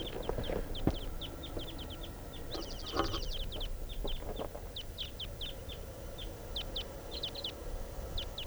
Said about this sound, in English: Flight song in the wild type 2 bird. A pair. And they have just taken off.